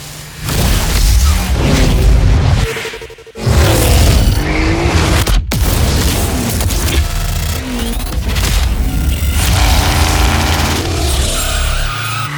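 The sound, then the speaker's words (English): Loud, dense montage from a car sound design reel: roaring engines, screeching tire skids and heavy booming impacts, layered continuously with a brief dropout near the start and a sharp cut midway. “I wanted to play a sample, actually, from your car reel, which is one of my favorites.”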